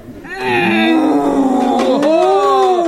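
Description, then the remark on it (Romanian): A person imitates a deep, ox-like bellow: one loud, drawn-out lowing call that swells and wavers in pitch for a couple of seconds. “Nici bou, că e bou, nu rage mai bine.”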